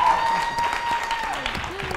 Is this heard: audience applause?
yes